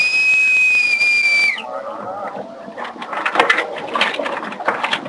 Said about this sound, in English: Very well. Bosun, pipe the boat. Go ahead.